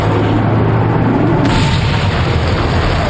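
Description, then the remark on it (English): Loud, continuous explosive roar with heavy low rumbling from a fire spreading over the whole area, punctuated by blasts, with one sharper burst partway through. No voices. “The area is an inferno of explosions as the fire spreads out over everywhere.”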